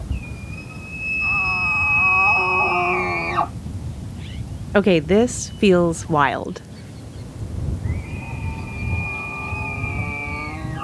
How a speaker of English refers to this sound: I hear something while I'm driving and decide to pull over and check it out. It's foggy. I can barely see the hill next to the road, but I hear something. Oh, hell yeah. Hell yeah. It's elk bugling.